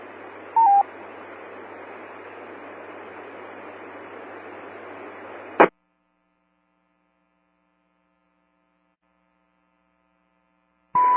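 Short radio beacon tones from the just-launched EOSS 82 balloon beep through a hissing, band-limited amateur radio channel over a low hum. The static cuts off with a click, and after a silence another brief tone sounds.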